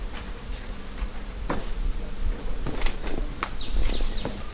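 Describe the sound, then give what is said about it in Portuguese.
A monkey screaming while climbing in a park, heard as scattered sharp cracks and rustles of branches at an uneven pace, with faint high-pitched chirping calls in the background near the end. No one speaks. “Escutou o macaco subindo?”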